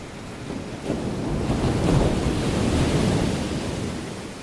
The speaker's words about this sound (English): a chorus of water that includes the Catskill Creek, Du Bois Creek, Thorpe Creek, Bowery Creek, Shinglekill, Catterskill Creek, the Hudson River, and a few unnamed ponds. Nothing speaks to our souls the way water does.